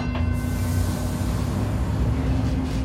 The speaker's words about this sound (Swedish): Precis när du och din pojkvän bestämt er för att gå av börjar tåget rulla.